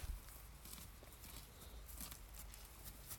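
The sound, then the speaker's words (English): Soft, irregular hoof thuds on the ground as horses walk closer in a field, a steady plodding rhythm over low outdoor rumble, with no voices. “Here come these horses.”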